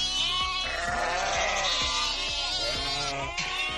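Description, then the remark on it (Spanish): Sheep used by the regional government to graze down the pastures of the Extremadura dehesas bleat loudly and repeatedly, several animals overlapping in a continuous chorus of wavering cries, dense with no pauses between calls. “Es el de las ovejas bomberas.”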